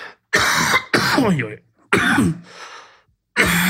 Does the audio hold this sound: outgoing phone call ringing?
no